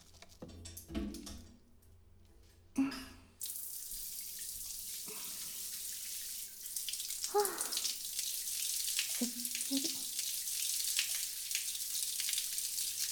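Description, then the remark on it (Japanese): Shower water hisses steadily after a few opening knocks and clunks, a continuous spray that grows slightly fuller midway, with occasional soft bumps beneath it and no voices. “シャワー貸して。”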